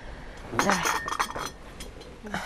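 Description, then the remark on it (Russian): Herbal tea pours from a real Tula-made, wood-fired samovar into a cup in Epifan, near Kulikovo Field, a short splashing rush mixed with light clinks of china and glass. Faint voices murmur in the background. “Давай чашечку, я тебе чая налью.”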